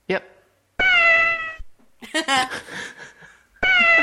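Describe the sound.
A cat gives two loud, drawn-out meows, the MTM studio logo jingle played in a logo quiz, with a short stretch of people talking in between the calls.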